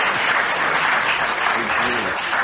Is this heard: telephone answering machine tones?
no